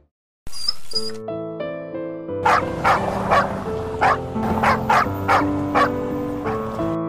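A small dog barks repeatedly, roughly eight sharp yappy barks in an uneven rhythm, fairly loud over steady background music, after a short burst of noise at the start.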